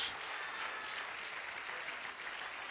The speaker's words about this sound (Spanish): De un aplauso al Señor en esta tarde.